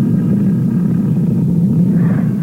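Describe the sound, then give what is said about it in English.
A lion's roar in Africa: a deep, loud, sustained low rumble that holds steady for a couple of seconds, with no voices over it. “That was a lion, wasn't it?”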